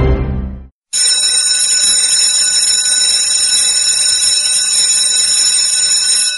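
A loud electric school bell rings continuously with a harsh metallic clanging, the first bell on 1 September opening the 2016-2017 school year, starting abruptly after a brief low rumble and silence and sustaining steadily to the end.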